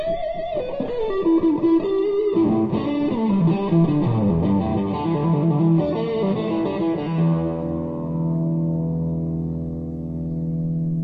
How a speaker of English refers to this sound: The other thing that was invented for him was the fuzz tones.